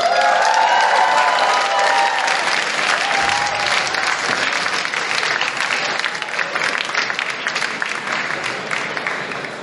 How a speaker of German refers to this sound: Applaus!